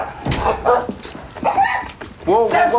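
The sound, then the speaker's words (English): A dog barks repeatedly in sharp, loud bursts, with some higher yips and whining, while people talk over the commotion, inside a council flat at 6:09 a.m. as police barge in. “Please shut that dog up.”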